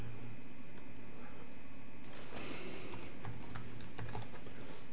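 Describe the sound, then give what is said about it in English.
Quiet typing on a computer keyboard, a loose run of soft key clicks with brief pauses over a low steady hum, no one talking. “Oh, my keyboard isn't. There it goes.”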